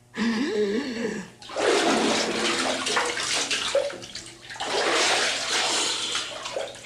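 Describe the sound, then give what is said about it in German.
A man gives a brief wavering vocal sound, then plunges into a bathtub and holds his breath underwater. Loud sloshing and gurgling water follow in two long bursts with a short lull between. “Dann tauche ich jetzt so lange, bis Sie die Ente zu Wasser lassen.”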